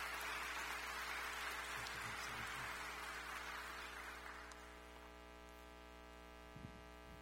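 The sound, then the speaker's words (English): An audience at Heritage applauds one morning to welcome a guest speaker, a dense, steady wash of clapping that tapers off after about four seconds, leaving only a faint electrical hum. No one speaks. “would you give him a warm round of applause and welcome him this morning to Heritage?”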